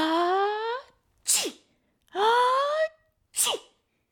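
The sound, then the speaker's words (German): A voice performs two exaggerated sneezes in a row as a dragon, each a long rising, wavering inhale followed by a sharp, breathy burst. Loud, with brief silences between them. “Er kann gar nicht mehr aufhören damit.”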